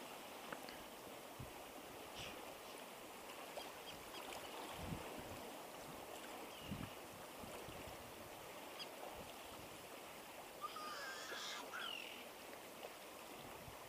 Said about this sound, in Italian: Questa meditazione in riva al mare è molto molto benefica. In qualunque momento la faremo, appunto questo rumore delle onde sulla riva, il suono dei gabbiani, il bambino che piange e tutto ciò che ascoltiamo e percepiamo con la nostra coscienza sarà